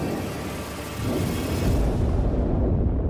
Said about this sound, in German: Kurz darauf hören sie die feindlichen Flieger über ihren Köpfen. Überall krachen und donnern Bomben, die in den umliegenden Häusern einschlagen.